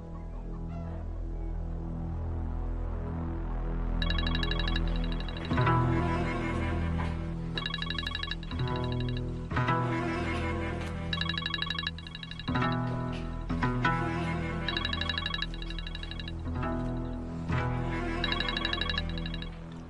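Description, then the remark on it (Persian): A phone ringback tone repeats in regular bursts over about twenty seconds as a number is dialed, sounding tinny through the phone's loudspeaker, with a steady low hum underneath and no talking. “این شماره رو بگیر، صداشو بذار رو بلنگو.”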